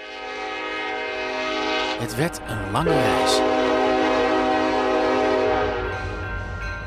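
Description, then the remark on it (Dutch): A train rumbles along steadily while a loud horn sounds in sustained harmonic blasts, with a brief voice speaking over the noise around the middle. “Ze gingen hun spullen bij elkaar zoeken en op weg naar de trein die ze door de nacht naar Nederland zou brengen.”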